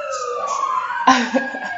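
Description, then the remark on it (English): A real-life emergency vehicle siren wails outside, its tone sliding slowly downward as it carries on steadily, with a brief burst of voices or noise partway through. “Sirens are real-life sirens.”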